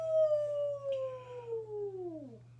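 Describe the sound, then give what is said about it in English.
A voice imitates a Sasquatch yell: one long, steady, howl-like cry held for about two seconds before sliding down in pitch and cutting off, over a constant low hum. “give him a Sasquatch yell while I'm looking for.”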